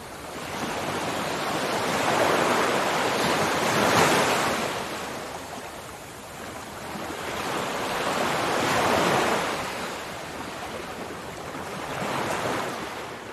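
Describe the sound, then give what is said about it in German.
Ocean waves roll in and break on the shore in slow, broad surges, swelling and fading roughly every four to five seconds over a steady wash of surf, with no voices. “Stell dir vor, wie du all deine Sorgen ganz einfach an die Wellen abgibst.”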